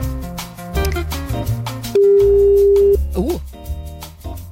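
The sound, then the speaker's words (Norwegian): A single steady, flat phone ringing tone sounds for about a second, loud and clear, over busy background music with beats and melodic notes. “Hei, dette landsmøtet som ringer deg.”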